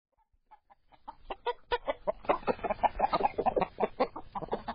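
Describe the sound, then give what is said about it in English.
A flock of chickens clucking and squawking, starting with a few soft, sparse clucks that build into a busy, continuous chorus of agitated hen calls. “Chicken!”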